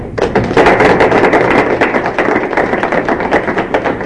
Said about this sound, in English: And I'd like to give the Wichita area a clap.